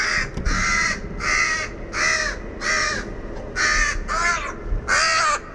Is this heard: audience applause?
no